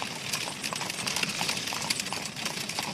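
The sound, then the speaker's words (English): Horse hooves clatter in a quick, uneven series of sharp knocks over a steady rumbling, rattling background of a carrier's cart jolting along a rough road. “Then there was a jolting and a clattering of horses' feet.”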